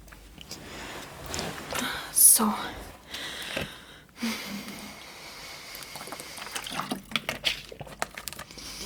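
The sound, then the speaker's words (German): Quiet handling noises and rustling as a person fetches their water, with a brief splash and trickle of water being poured into a glass, followed by faint clinks and shuffling. “Ich hole mir mein Wasser.”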